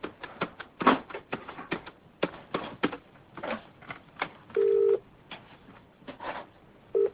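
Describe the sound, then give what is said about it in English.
A telephone by a bed being dialed to phone a friend: a quick, irregular run of clicky button presses, then a steady electronic tone lasting about half a second and another brief tone near the end. “You can use the phone by the bed.”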